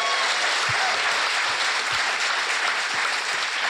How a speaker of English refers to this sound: Thank you so much. Big round of applause.